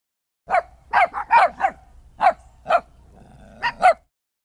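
A dog barks in quick bursts, about nine sharp barks in uneven clusters, fairly loud with a faint low rumble underneath between them.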